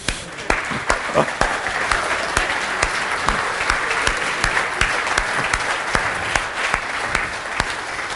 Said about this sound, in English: Yeah, and I think for this we can really give a big applause.